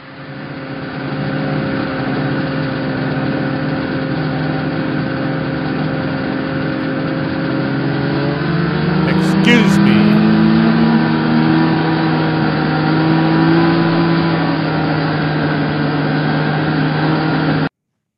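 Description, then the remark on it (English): A loud snowmobile engine drones steadily throughout, its pitch rising as it revs up around the middle before settling back into a sustained, continuous roar, with no voices. “Just at the gate, there's a sign there says no skidoos, no RVs, no vehicles, no nothing. What are they doing in here?”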